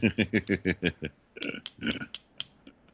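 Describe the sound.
An imitation, made with props, of a small hammer tapping: a quick, even run of about six throaty, low pulses, then a handful of sharper, brighter metallic taps, with no talking.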